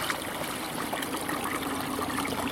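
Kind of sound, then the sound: nature, babbling water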